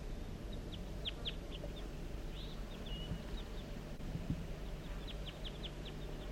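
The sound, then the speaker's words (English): Crossbills give a scattered series of short, sharp chip calls, some in quick pairs or clusters, fairly faint over a steady low rumble of wind, heard on a hill as the recordist walks down it. “So recording, I'm on my way down the hill and I've met up with crossbills, perhaps the same birds as before.”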